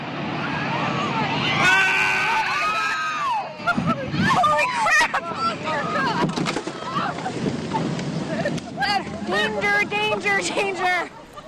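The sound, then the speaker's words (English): Several voices shout and call out in an excited, overlapping jumble over a steady engine-like drone, the commotion rising and falling throughout, aboard the 65-foot tour boat Captain Cook in Tracy Arm as a large chunk of a calving glacier breaks off and sends waves and ice toward the vessel. “The shouts heard there soon turned to concern as a group of people crowd around the woman lying in obvious pain on the deck of the boat.”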